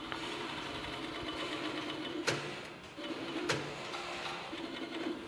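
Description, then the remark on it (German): Sewing machines whir steadily in a small shoe factory in an old former farm building, stitching the uppers of mostly vegan shoes, a continuous mechanical drone with two sharp clicks breaking through midway. No one speaks. “Das sieht jetzt erstmal so nicht überhaupt nach Schuhproduktion aus, weil hier so viele Nähmaschinen stehen. Ja, das Obermaterial wird halt genäht.”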